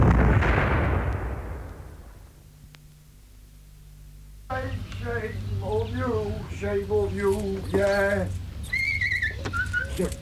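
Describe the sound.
A single loud, booming blast like a bazooka firing, its roar fading over a couple of seconds into near silence, followed by lively, high-pitched voices.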